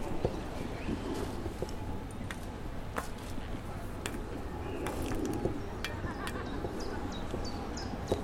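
Scattered bird chirps and calls ring out over a steady, low droning hum from a large wind turbine, with a constant outdoor rumble underneath and no clear talking.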